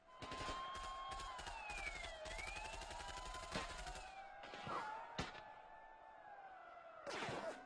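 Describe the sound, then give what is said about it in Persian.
Rapid bursts of gunfire crackle over a wailing siren that rises and falls, with several sharp, loud shots standing out near the end amid a tense, noisy street scene, as slogan-chanting protesters in the streets are answered with bullets. “و شعارهای من را پاسخ دادند با گلوله.”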